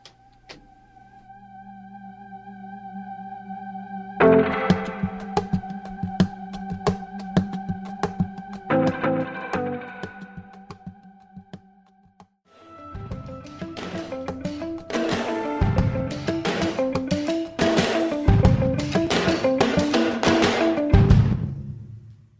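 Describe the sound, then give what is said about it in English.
A rock band's first single from an upcoming record plays, opening with sustained guitar-like tones and rhythmic strumming before drums and the full band crash in about halfway through, loud and driving with steady beats. No one speaks. “This is the first single off of that record.”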